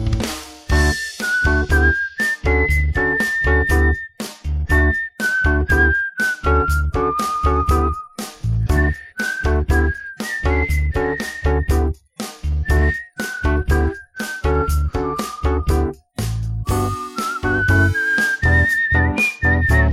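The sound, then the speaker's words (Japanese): A clear whistled melody, a man whistling a song during a whistling practice lesson for others to follow, carries a steady tune of bright sustained notes over a rhythmic instrumental backing with a regular beat, continuing without pause for the whole stretch. “今日もみんなで口笛の練習をしよう。”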